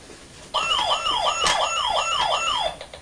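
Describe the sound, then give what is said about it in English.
A toy emergency-vehicle siren wails in a fast, rising-and-falling warble, about six quick cycles over two seconds, loud, then cuts off abruptly. No one speaks. “Fire engine! Yes, fire engine, police car, ambulance.”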